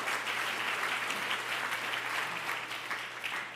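An audience claps steadily in a dense, sustained round of applause, the many overlapping hand claps forming a bright wash of noise that holds level for several seconds.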